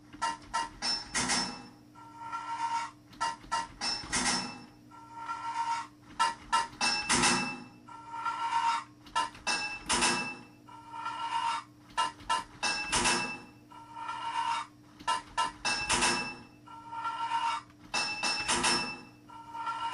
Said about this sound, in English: 10 total pipes to fit this level. 2 hits of a hammer to fit a pipe.